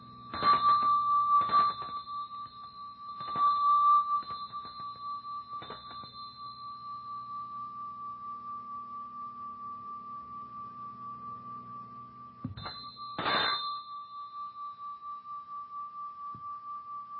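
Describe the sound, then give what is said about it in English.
A handheld metal bell shaped like a school bell and made of more than seven metals is struck several times, each bright clang followed by a long, shimmering ring that sustains and slowly fades, with a final strike near the end. No one speaks. “Of course, this bell, this handheld bell, has more metals than seven in it.”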